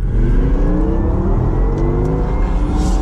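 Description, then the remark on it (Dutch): A Porsche Taycan Turbo GT electric sports car accelerates hard on the Monte Blanco circuit near Seville, a loud continuous whir and drone with tones climbing steadily in pitch over about three seconds, with no voices. “Een van de heftigste elektrische auto's die je op dit moment kan kopen.”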